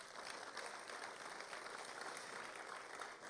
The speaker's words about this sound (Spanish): Así que dele la gloria a Dios. Vamos a darle un aplauso para liberarlos de estas palabras.